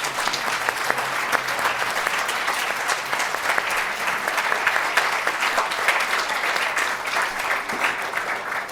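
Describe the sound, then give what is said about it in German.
An audience at the end of a talk claps for themselves steadily for several seconds, dense overlapping hand claps at an even loudness from start to finish with no talking over it. “Also gebt euch selbst einfach mal einen großen Applaus noch.”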